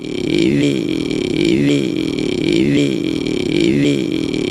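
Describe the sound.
A voice imitates an idling rally car with a continuous buzzing, rumbling drone that surges rhythmically in pitch about once a second, loud and sustained throughout with no other talk.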